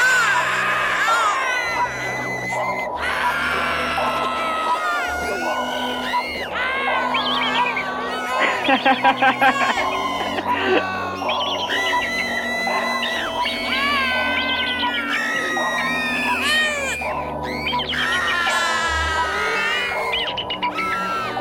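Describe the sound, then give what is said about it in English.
Shrill, piercing raptor screams rise and fall again and again, stacked over a dense, roaring wall of crowd-like shouting and cheering that fills the whole stretch without a pause. “How about a raptor or an eagle scream?”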